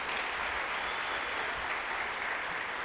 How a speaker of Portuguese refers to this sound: Aplaude a Jesus mais uma vez, hein?